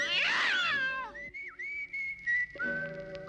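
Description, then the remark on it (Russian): A loud burst of startled cats yowling with a sharp downward wail as they are scared off a rooftop antenna by a thrown rope, quickly giving way to a steady whistled melody of sustained high notes with brief gaps. “Пока в гости размахивается, кидает ее как лассо и цепляет за антенну на крыше, распугивая сидящих там кошек.”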